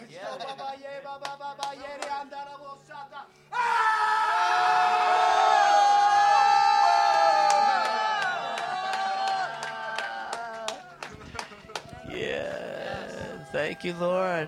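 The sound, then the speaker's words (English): A church audience roars together in a long, loud, sustained swell, with scattered shouts and whoops rising above it before it breaks up into murmuring and fresh outbursts. “You can do it in the mic. We'll roar with you.”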